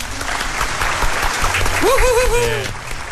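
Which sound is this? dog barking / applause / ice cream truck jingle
applause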